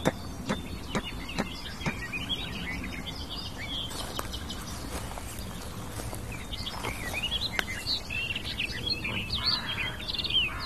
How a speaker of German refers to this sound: Das sind unsere verrückten Krähen, die hier ein neuer Ding ist. Die müssen hier irgendwo in der Nähe brüten, die hier ihren Schabernack treiben und viele Alarme auslösen als klassische Nesträuber.